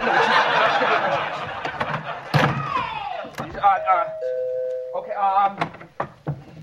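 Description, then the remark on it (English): A doorbell chimes with sustained ringing tones amid lively chatter and laughter, broken by a few sharp thumps. “Can't you even answer the door?”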